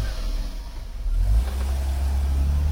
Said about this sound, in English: This is what driving with an out-of-tune engine feels like. Keep your engine running smooth.